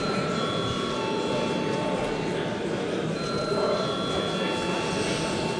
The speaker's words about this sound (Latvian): Paldies, lūdzu zvanu.